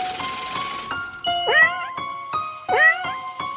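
A cat meows twice, each a short rising-then-falling cry, set over a steady rhythmic electronic beat with sustained tones underneath.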